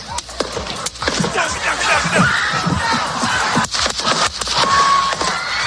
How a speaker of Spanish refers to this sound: Trump está hablando en este mitin, se oyen al menos 3 ráfagas de disparos, el expresidente se tira al suelo y se levanta con sangre en su oreja derecha.